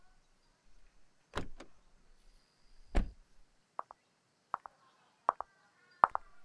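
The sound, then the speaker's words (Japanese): A very large car pulls up and idles faintly, then car doors clunk and thud shut, followed by a series of short paired mechanical clicks like a window or latch mechanism. No voices. “お、来たか。相変わらずバカでかい車だこと。”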